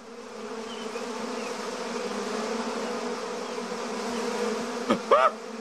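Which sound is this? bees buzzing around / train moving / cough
bees buzzing around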